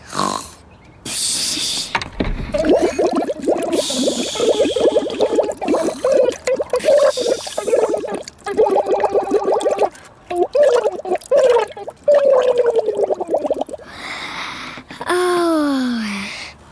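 A wet, gurgling bubbling sound carries a warbling tune for several seconds, fairly loud, ending in rising and falling whistly glides: a pet goldfish named Bubbel blowing bubbles through water as a song; a voice seems to imitate the bubbles.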